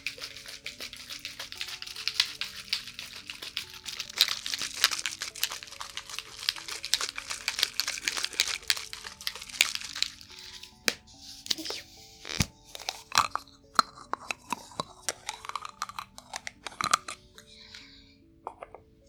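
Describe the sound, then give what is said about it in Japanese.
Fizzing, crackling carbonated ear gel bursting on the left ear: a dense, steady hiss of tiny bursting bubbles that thins out midway into scattered sharp pops and clicks, with no one speaking. “この炭酸が弾けて、シュワシュワーって、お耳に刺激を与えることによって、よりそのジェルの浸透などが良くなっていくんです。”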